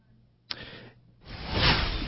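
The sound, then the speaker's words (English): A brief click, then a loud rushing whoosh sound effect swells up out of near silence, peaks, and holds as broad airy noise to the end. No one speaks. “Can I get a whoosh on that”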